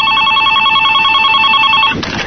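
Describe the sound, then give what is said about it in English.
A steady electronic phone ring tone while calling the American-made emergency hotline for assistance, with bright, sustained harmonic bands, heard as if through a handset, cutting off abruptly near the end with a brief click-like burst. “It's ringing.”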